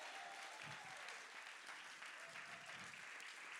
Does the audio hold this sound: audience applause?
yes